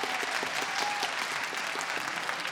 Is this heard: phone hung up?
no